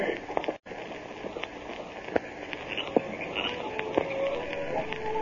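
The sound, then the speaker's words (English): Hoofbeats of the Lone Ranger's horse Silver galloping away into the night, heard as a loose series of sharp knocks over a steady hiss, not clearly rhythmic, holding a fairly even loudness throughout. “Well, the Lone Ranger rode off into the night.”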